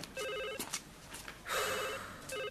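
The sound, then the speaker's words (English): A telephone rings in repeated trilling bursts, with short pauses between rings, clear over a faint background hiss. “Well, you get the phone.”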